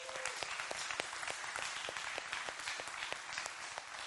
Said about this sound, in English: All right, would you give these folks a big round of applause?